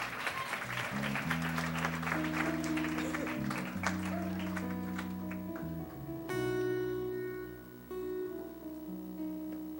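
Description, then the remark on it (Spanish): At a church service, an audience claps loudly and steadily for the Lord over sustained, droning keyboard chords; the dense clapping fades after several seconds, leaving the held musical tones to continue. “If you're going to give a clap, give it to the Lord firmly.”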